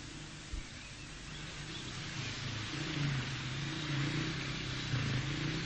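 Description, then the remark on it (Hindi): A car engine runs roughly with a steady low rumble and broad hiss, its pitch wavering as it revs unevenly, continuous with no one talking. Its spark plug had gone bad and been cleaned. “क्या हुआ इसको? इंजन में पानी आ गया है क्या?”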